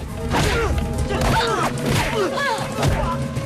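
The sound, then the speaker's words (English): A rapid flurry of punches and kicks in a fistfight, as a man gets up from the floor and fights off two gunmen, lands as heavy thuds and sharp whacks. About five loud impacts mix with strained grunts and quick swishes of movement. “Lee gets to his feet and fights off both men, kicking and punching.”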